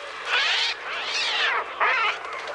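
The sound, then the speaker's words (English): Synthesized seagull cries made on an early synthesizer called the Trautonium for Alfred Hitchcock's horror film The Birds: three or four shrill, arching wails in quick succession, loud and unaccompanied, each rising and falling in pitch with a harsh, buzzy electronic edge. “Instead, the sound of those murderous seagulls was made using an early synthesizer called the Trautonium.”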